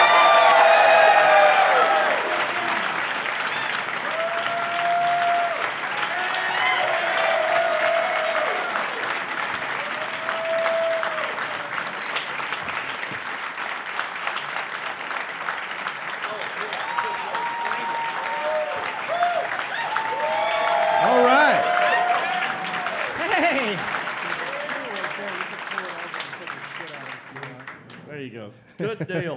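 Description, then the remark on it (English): Loud, sustained applause from a comedy audience at the Queen City Comedy Festival in Charlotte, with scattered cheers and whoops rising over the dense clapping for nearly half a minute before it cuts off abruptly. “Please give it up for”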